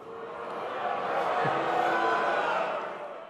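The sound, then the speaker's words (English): A large audience at the Al Smith dinner boos Donald Trump loudly in a sustained, blended roar of many voices that swells over a few seconds and then eases off, with no clear speech standing out. “So normally there isn't booing at the Al Smith dinner, but Donald Trump was rather lustily booed.”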